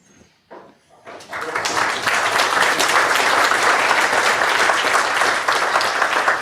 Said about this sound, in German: Ich würde sagen, vor den Fragen kommt der Applaus.